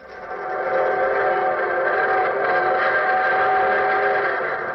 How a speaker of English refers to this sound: There's the evening train whistling for Hunter's Bottom.